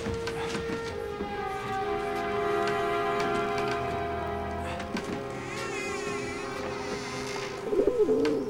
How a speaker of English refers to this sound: Opening the door to the room the noise came from, the torch beam picks out some plump pigeons.